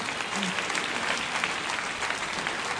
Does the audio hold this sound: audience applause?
yes